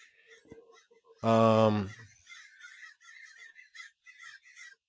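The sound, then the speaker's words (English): Crows caw outdoors: one loud, harsh caw, followed by a steady run of quieter, higher-pitched calls and chatter from several birds. “Dude, I'm being overran by crows right now.”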